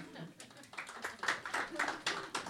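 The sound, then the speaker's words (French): Scattered audience applause, a loose patter of claps from a small crowd, modest in volume, with some murmured voices mixed in underneath. “Est-ce que les gens de l'avant, vous vous mettiez à l'avant dans le bus par applaudissements ?”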